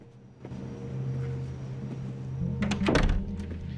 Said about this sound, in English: Approaching one of these, he knocks. Inside, Galvez goes to the door and puts his eye to the peephole before opening it to allow Tony in.